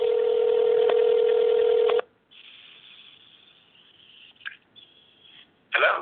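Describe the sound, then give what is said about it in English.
A steady telephone tone sounds for about two seconds, then cuts to a quieter line hiss with faint clicks and a brief burst of static near the end, like a call connecting. “We do have a phone ringing.”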